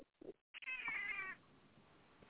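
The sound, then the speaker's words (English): A couple of brief cat chirps, then one loud, drawn-out yowling meow, like cats squabbling in a cat fight, one of them the cat Mimi, fading into quiet room noise. “Cat fight.”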